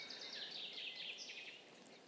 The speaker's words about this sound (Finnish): Linnut laulelevat, lunta on vielä jonkin verran maassa ja vettä sataa, kuten kuuluu räystäitä litisevän alas.